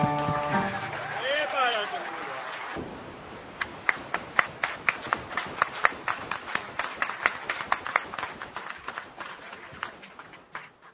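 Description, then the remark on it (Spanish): A brief tonal musical passage fades out, then an audience breaks into scattered, uneven applause, sharp individual claps ringing out over several seconds before tapering off. “No sigan aplaudiendo que continuamos con más números.”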